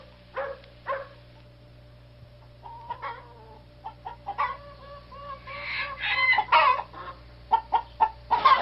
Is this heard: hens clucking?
yes